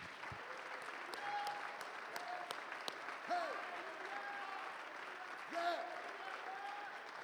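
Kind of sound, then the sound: crowd, audience clapping hands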